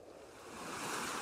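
Ocean surf rushes onto the shore, a broad hissing wash that swells steadily louder over its brief span, with no voices present.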